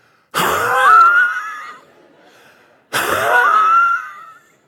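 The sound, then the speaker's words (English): A voice imitates two loud, strained wheezing breaths of a runner just past mile two of a race, each a rasping gasp lasting over a second, separated by a short pause, like someone struggling for air mid-run. “I was cruising, but I wasn't breathing. And right after we passed mile two, my breathing sounded like this.”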